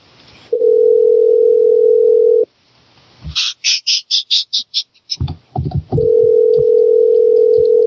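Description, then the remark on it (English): A steady, loud telephone dial tone hums, breaks for a quick run of about nine short bright beeps and some clicks as a number is dialed to call someone back, then the dial tone resumes. No one speaks. “Yeah, I'm gonna call her back.”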